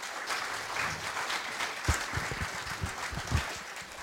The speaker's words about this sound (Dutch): Een hartelijk applaus voor Mark Boogt.